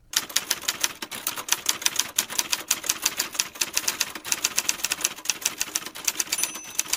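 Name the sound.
typewriter typing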